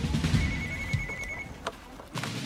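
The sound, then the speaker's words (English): A telephone rings as a phone tip comes in to detectives, a single sustained electronic tone lasting about a second, over a low rumbling background, with a couple of brief clicks afterward and no one speaking. “Detectives then receive a new phone tip from the preacher's home state.”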